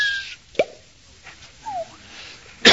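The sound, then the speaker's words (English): A raindrop sound effect: a short, sharp plop, then a brief downward-gliding tone and a final crisp burst, each separated by quiet gaps, with no talking. “Until the first raindrop spiraled down out of the skies. Here it comes.”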